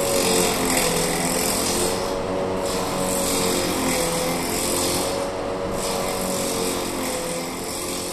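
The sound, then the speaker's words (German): A wooden shoe making machine runs steadily, a continuous loud rasping and grinding of cutters on wood over a low mechanical hum, with faint tonal whines and no pauses. “Auch das Geräusch der Maschinen wird die Holzschuhmacher, die die Holzschuhe noch mit ihren Handwerkzeugen gefertigt hatten, verstört haben.”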